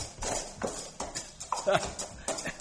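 A gray horse's hooves clip-clop along a mountain trail in a steady, uneven rhythm, several hoof strikes landing every fraction of a second, moderately loud.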